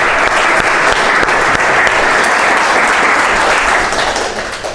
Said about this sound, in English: so she deserves a big round of applause.